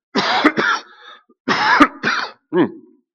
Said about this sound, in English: I cast that out. I'm going to cough that out in the name of Jesus. I'm going to cough that demon out in the name of Jesus.